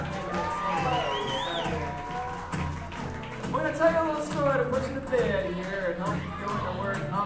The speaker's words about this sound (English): Thank you so much for opening your doors here in Santa Barbara, and then that's San Francisco. Give yourselves a round of applause and turn it out on a Tuesday night.